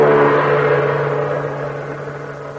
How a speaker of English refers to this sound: Listen to this. You don't need to have an airplane spotter to tell you what this sound means. Yes, that's an airplane engine